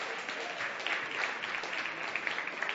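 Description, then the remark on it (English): A crowd applauds the sound team steadily, a dense wash of many hands clapping at an even volume with no pauses or voices. “Our awesome sound team, sometimes they get left out of all the love and applause.”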